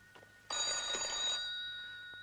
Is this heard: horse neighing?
no